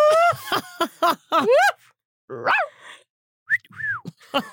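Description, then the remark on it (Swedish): Whistling in short, bright bursts, the pitch sliding up and down in swooping glides, with brief pauses between phrases and a final pair of rising-falling notes. “Oh, vilken bra vissling.”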